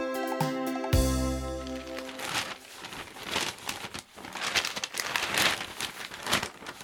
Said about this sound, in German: kannst du nicht leise lesen? Leise lesen? Du raschelst so laut mit der Zeitung vor meiner Nase.